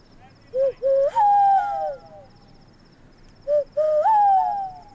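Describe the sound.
A person imitates a bird call as a 'sky rat call' signal, with two hooting phrases, each made of two short notes followed by a longer, wavering tone that rises and then slides down, over faint background hiss.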